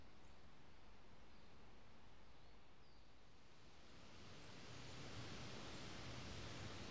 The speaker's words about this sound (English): The familiar babbling rush of the River Dover's once again re-entered our earshot.